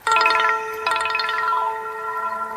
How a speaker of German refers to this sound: Das ist jetzt also, wie man hören könnte, ein Klingelton gewesen. Ne? Das ist so ein typischer Trigger, den jeder von uns kennt im Alltag.